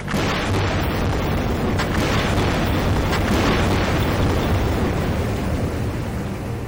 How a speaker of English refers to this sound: That is seismic surveying. It's a process that allows companies to essentially locate spots on the ocean floor where they can drill for fossil fuels. So you'll have boats with about 30 or 40 air guns that'll all go off at once.